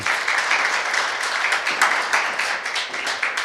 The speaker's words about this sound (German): Kleinen Applaus.